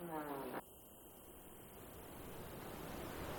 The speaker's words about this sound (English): The river. Listen, it's roaring. Ghazal Ozan is one of the roaring rivers of Iran.